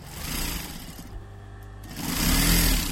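A sewing machine runs steadily close by, its rapid mechanical whir easing briefly in the middle before speeding back up, louder and busier toward the end.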